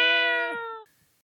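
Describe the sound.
A person imitates a cat with a single drawn-out meow, clear, its pitch sliding down before trailing off into quiet.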